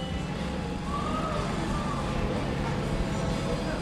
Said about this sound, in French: C'est la porte d'entrée du club de gym. Hein. Faut pas se méprendre, même si elle fait un drôle de son.